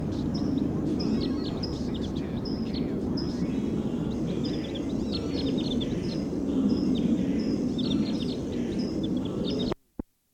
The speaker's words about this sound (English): 302's that rapid, funny call. Wild bird calling loud in the distance, pointed in the direction of the wild bird.